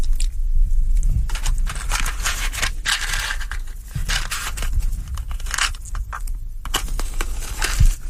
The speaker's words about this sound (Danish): Og så kan jeg også lige få ild på cigaren igen.